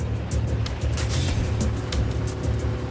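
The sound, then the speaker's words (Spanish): A car approaches in a remote, rocky desert area, its engine rumbling steadily with a low hum and a wash of hissy road noise, holding at a fairly even loudness throughout, with no voices. “Pero de repente, se acerca un coche.”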